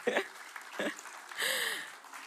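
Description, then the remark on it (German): A short burst of audience applause from a crowd, fairly soft, with scattered claps swelling briefly before tapering off, given for a woman being thanked. “Gebt ihr Applaus.”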